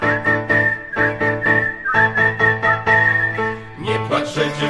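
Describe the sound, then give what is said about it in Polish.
A whistled melody with a clear, high, steady tone, its pitch gently wavering, carried over a bouncy rhythmic instrumental accompaniment with a pulsing beat; no voices. “idzie sobie w światy i tak sobie śwista.”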